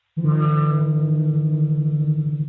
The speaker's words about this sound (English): If we were to hum the same note on the count of three, two, one.